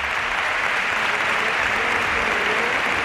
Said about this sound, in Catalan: Doncs ara és increïble, el respecte. S'han acabat els càntics de sobte i aplaudiments unànimes, eh?